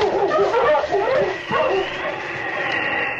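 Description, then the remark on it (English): The dog King barks and yips excitedly in a quick burst of several barks, followed by a higher whining tone, as a man's voice calls out over it, urging him on after them. “After them, King. Find them, boy. All right, on, King! On!”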